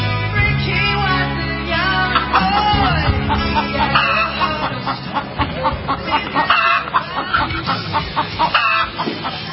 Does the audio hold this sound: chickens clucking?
yes